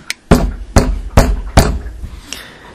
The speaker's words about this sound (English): All right, said Bugs, we'll knock on the door, but I assure you nobody's going to answer the door. So Bugs knocked on the door.